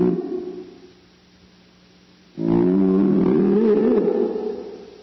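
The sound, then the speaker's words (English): Deep, moaning whale calls. A softer call fades away, then a loud, sustained groan with shifting, wavering pitch rises halfway through and holds to the end, with no talking. “And here are some whales to say thank you as well.”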